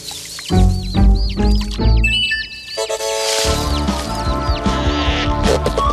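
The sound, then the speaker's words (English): Birds flap their wings in a frantic flurry, with rapid squawks and high chirps, followed by a busy stretch of tonal, music-like sound. No one speaks. “Flap all you want, birds. It won't do you any good.”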